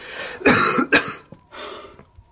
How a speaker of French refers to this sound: Vous m'avez fait tant de mal que je vais veiller toute la nuit. En m'étranglant avec cette toux.